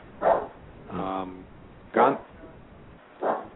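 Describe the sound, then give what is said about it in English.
A dog barks four times at a steady, unhurried pace, each bark short and sharp, one more drawn-out and tonal, against a faint background hiss; the dog is barking at somebody coming to the house. “My dog is barking at somebody coming to the house.”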